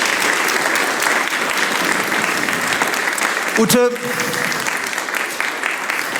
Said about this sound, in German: Wenn du dich jetzt wieder setzt, bekommst du einen riesigen Applaus.